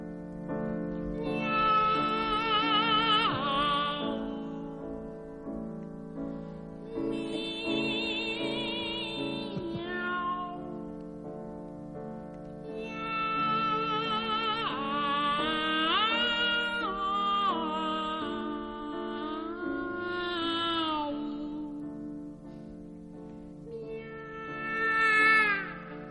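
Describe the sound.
A soprano and a mezzo-soprano sing Rossini's humorous cat duet, whose only text is drawn-out meows, trading and overlapping phrases in a bright recording with a loud flourish at the end.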